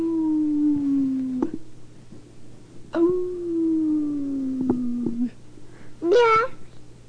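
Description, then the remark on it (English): A child's voice imitates a howl in two long, slowly falling wails, followed by a short rising yelp, with a faint steady hum in the background. “I'm trying to get him to do his howls and clicks and tongue and lip trills, but he doesn't want to do them.”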